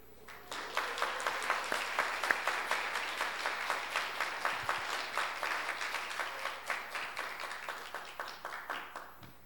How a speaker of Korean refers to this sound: 오늘은 특별히 전국 주일학교 연합회에서 주는 모범 어린이가 저희 교회에서 선정이 되었습니다. 호명하면은 큰 박수로 축하해 주시면 고맙겠습니다.